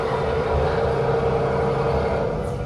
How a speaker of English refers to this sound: Slowing this thing down. Okay. We're going to pull into the dock. Nice and easy. Who said a blind man couldn't drive a boat, right?